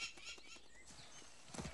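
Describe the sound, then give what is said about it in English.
The hooves of a horse being ridden over the top of a hill clip-clop in a quick, steady rhythm, fairly soft, with a brighter burst of sound near the end and no one speaking. “rides over the top of the hill.”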